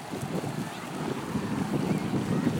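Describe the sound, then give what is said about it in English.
Rushing, churning water roars steadily, a dense turbulent wash of river rapids as the water surges through a gap and pours down some steps, fairly loud with no pauses. “Rapids as the water surges through a gap and pours down some steps.”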